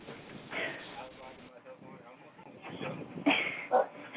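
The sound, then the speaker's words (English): Dogs bark and whimper in short, high-pitched bursts, with a couple of sharper yelps near the end over a steady low background murmur. “Even the dogs don't like that.”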